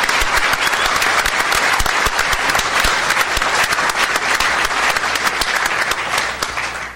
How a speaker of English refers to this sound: And I want to thank them for their professionalism and for their partnership in this endeavor and making today possible. Let's give President Snyder a round of applause and the Tribal Council.